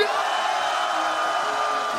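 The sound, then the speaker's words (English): A large concert crowd screams at full volume, answering the performer's call to scream as loud as they can on a count of three: a dense, continuous roar of many voices that holds steady and loud for the whole stretch without letting up. “And if you want one more tune, I need everybody to scream as loud as you can on the count of three.”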